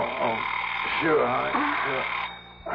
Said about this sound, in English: Your alarm to wake you up. Turn it off.